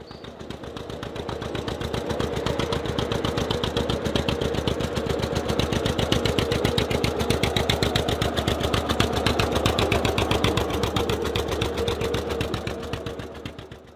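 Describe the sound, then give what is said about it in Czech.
An old Svoboda 15 tractor engine runs steadily, a loud, rapid chugging beat that holds even for the whole stretch before easing off at the end. No voices. “Po druhé světové válce v roce 1948 si pořídil traktor Svoboda 15.”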